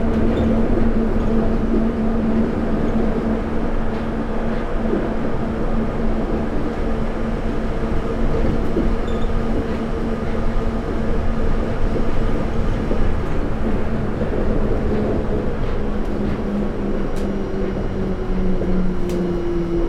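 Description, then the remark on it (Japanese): A train bound for Shinbashi, with Shin-Toyosu as the next station, rumbles steadily along the rails for the whole stretch, a dense low roar with a sustained tonal hum that slowly drops in pitch near the end, and faint intermittent clicks and squeaks. “この電車は新橋行きです。次は新豊洲です。”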